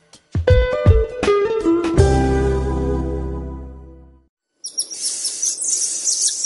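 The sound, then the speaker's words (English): Several resonant plucked tones ring out and fade, then after a brief silence a dense chorus of high, shrill, chirping cries of golden lion tamarins, tiny orange monkeys, in the rainforest at Silva Jardim, Brazil, 70 kilometers from Rio, runs steadily to the end. “A tiny creature that was once nearly extinct has bounced back from the brink and is filling the rainforest with its shrill cries once again.”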